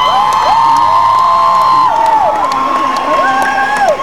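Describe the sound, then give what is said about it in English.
A loud, steady wash of audience applause and cheering at a live show carries on without a break as the band's musicians are introduced, with long whoops and whistles rising and falling above the clapping. “This is their last couple shows with us for a while, so I want you to give them a big hearty round of applause while I introduce them.”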